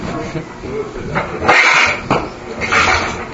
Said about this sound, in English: What is that? The door.